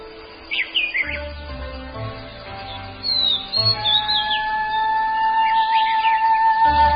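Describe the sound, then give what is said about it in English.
A dawn chorus of forest birds claiming their territories in the canopy, with overlapping chirps, whistles and trilling songs from several birds, continuous and layered over a low ambient hum, no talking. “As dawn arrives, forest birds claim their territories in the canopy.”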